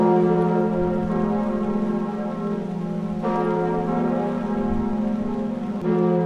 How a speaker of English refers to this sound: The Eiffel Tower switched off its lights and the bells of Notre Dame echoed across Paris.